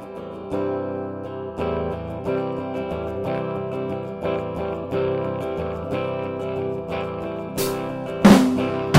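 An electric guitar run through a tremolo pedal, played in a studio, strums sustained, effect-laden chords in a steady rhythm, fairly loud, with a sharp noisy burst near the end and no voices.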